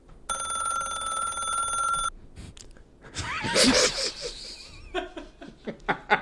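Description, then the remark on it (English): A telephone bell rings steadily and loudly for about two seconds, then stops, followed by a burst of laughter and giggling. “I wasn't expecting it to be ringing that long.”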